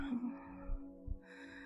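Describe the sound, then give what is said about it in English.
Soft, low heartbeat thumps of a person's heart slowing down after excitement, two or three muffled beats at a slow, even pace, sitting under a steady droning hum with no voices. “Listen to my heartbeat, baby.”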